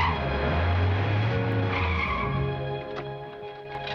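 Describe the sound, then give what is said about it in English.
A large estate car lurches to a halt outside a Holiday Inn, its tires screeching loudly against a rumbling engine for a few seconds before the noise drops away abruptly. No one speaks. “A large estate car lurches to a halt outside the Holiday Inn as the staff set the tables out on the front lawn.”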